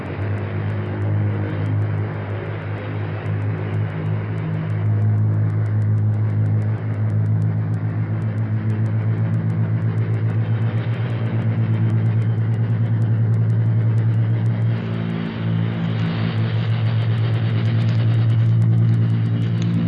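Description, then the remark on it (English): A heavy ten-engine aircraft of 42,000 horsepower, weighing 358,000 pounds and 230 feet from wingtip to wingtip, roars loud down a runway, its deep engine drone holding steady with slight swells and pitch shifts as it passes and lifts off on a practice mission. No voices. “our microphone is open, ready to record the sound of your 10 engines as you pull up to it, pass it, and get off the ground to start a practice mission of thousands of miles, a mission that will keep you in the air for 36 hours.”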